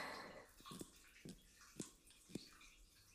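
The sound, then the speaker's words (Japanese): Water gushes briefly from an open shower hose with its shower head removed, used for an anal enema, then gives way to scattered splashes and drips, ending on a sharp knock; no one speaks. “で、シャワーの水を入れるの。”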